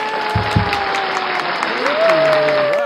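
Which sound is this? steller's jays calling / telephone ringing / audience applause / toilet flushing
audience applause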